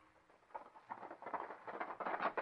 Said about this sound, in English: Hey, you! Pull up that horse! Stop, you hear? Sorry, Judge. I'm in a hurry. Pull up that horse, or by gobs, I'll pull you down off of it.